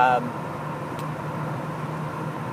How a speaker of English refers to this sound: That said, tonight there's no other car I'd rather be in, even with the noise. And I just hope it doesn't bug you guys too much.